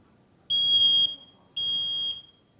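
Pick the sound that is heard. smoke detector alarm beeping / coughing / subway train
smoke detector alarm beeping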